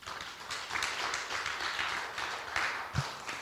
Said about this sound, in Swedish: Vi ger en applåd till Jesus.